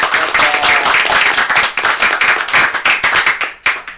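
An audience claps steadily, a dense wash of many overlapping hand claps with sharp bright transients, loud and sustained for several seconds before thinning out slightly at the end.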